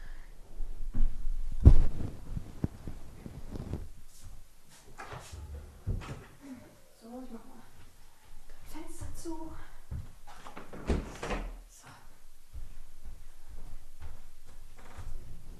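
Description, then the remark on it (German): A door that the wind blew open thuds shut amid a series of knocks, clunks and handling noises, with a faint, muffled voice briefly in the background. “Oh, meine Tür ist aufgegangen durch den Wind. Also Moment, ich muss das hier mal kurz ändern.”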